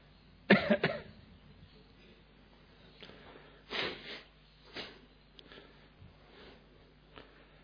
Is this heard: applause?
no